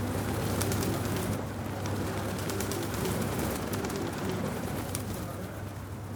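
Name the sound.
birds cooing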